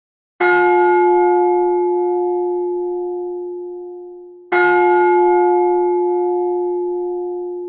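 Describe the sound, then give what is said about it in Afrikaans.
A ship's bell is struck twice, about four seconds apart, each loud, clear clang ringing out with a long, slowly fading resonant tone. No voices are heard. “Volgens Ron Martin het meeste van die klokke van skepe afgekom.”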